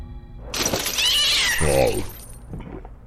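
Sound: cat meowing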